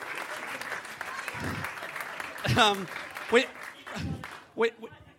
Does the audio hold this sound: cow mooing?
no